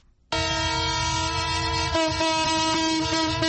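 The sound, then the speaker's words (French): A freight train's horn blasts loud in one long sustained chord, steady for several seconds, with the rumble of the rolling train underneath and no voices, as a fuel-carrying freight train from Pointe-Noire, 510 km away, arrives at the central station in Brazzaville. “Ce sifflement en plein Brazzaville confirme bien l'arrivée à la gare centrale du train de marchandises qui a rallié la capitale en partance de Pointe-Noire à 510 km.”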